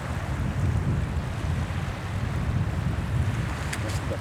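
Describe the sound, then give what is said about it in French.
Ocean waves in Finistère wash onto the shore in a steady, low rumbling roar, swelling and easing gently, with a soft windy hiss over it and no voices. “Vous venez d'écouter à l'œil nu un océan à entendre.”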